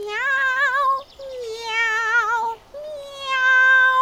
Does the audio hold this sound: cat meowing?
yes